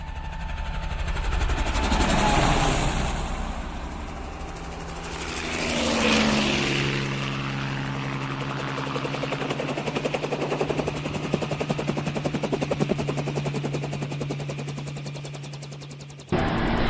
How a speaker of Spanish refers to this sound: Nada vieron, pero pudieron escuchar ruidos de motores de vehículos y las hélices de los helicópteros que comenzaban a peinar la zona.